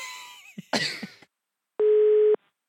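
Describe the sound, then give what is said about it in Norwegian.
A brief burst of clattering handling noise, then after a pause a single loud, steady electronic telephone ringing tone of an outgoing call to a Jysk store sounds for about half a second before cutting off. “Da tror jeg vi bare ringer”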